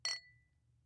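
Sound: glasses clinking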